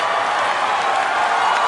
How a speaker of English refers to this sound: Oh, the crowd loves it.